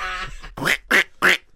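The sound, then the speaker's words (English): A person imitates a duck with three loud, nasal quacks in a steady rhythm, each short, following a brief harmonic vocal sound at the start. “So I'll do a duck instead, you know.”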